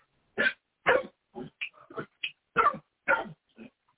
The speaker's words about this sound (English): Of course, she has to bark the second I'm going to read, right?